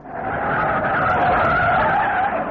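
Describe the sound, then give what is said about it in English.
Chuck's car skids loudly to a stop, tires screeching in a sustained, steady squeal with a rough rumbling undertone for a couple of seconds. No one speaks. “Good. He stopped.”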